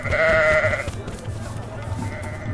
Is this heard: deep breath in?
no